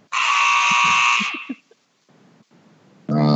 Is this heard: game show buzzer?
yes